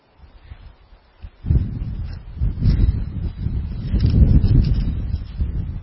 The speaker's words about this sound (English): It's getting windy.